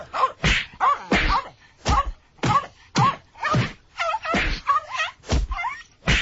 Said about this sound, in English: Who are you punching there? And could I just say, no animal was harmed in the taping of that effect.